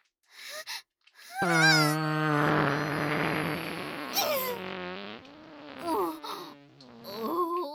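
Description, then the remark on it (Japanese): A loud, drawn-out fart, let out with the bottom pushed out in a bow-legged pose, with a buzzing, pitched tone that wavers and sputters for several seconds, mixed with breathy moaning vocal sounds, after a brief short burst at the start. “ぐるぐるしてた特のオナラ、すんごい音でお漏らししてしまいましたわ。”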